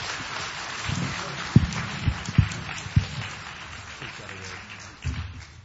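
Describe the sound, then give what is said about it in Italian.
An Italian audience applauds to welcome a guest coming up to the front, with dense, steady clapping that holds at a moderate level, broken by a few sharper thuds, with faint crowd voices mixed into the clapping. “And let's have him come up and greet him with a great Italian applause.”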